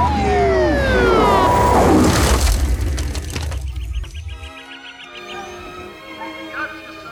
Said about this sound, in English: A siren drowned Jack's reply.